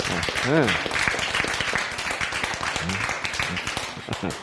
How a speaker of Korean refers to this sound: 박수.